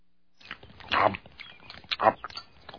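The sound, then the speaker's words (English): A dog chews on a set of keys, with two louder crunching bites amid scattered small metallic clicks and gnawing sounds. “Hey! Where the dog got my keys?”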